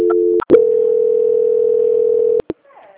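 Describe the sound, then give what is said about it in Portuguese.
A steady mid-pitched telephone tone holds for about two seconds as a call is transferred to the quality department of Poupa-Crédito, a Banco Santander correspondent, bracketed by brief clicks, then cuts off as faint line noise follows. “Eu vou transferir agora para o setor de qualidade”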